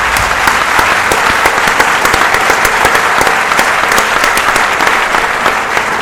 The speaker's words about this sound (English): I'd like you to welcome our distinguished guest, George Soros. Maybe you give him a round of applause before he even starts.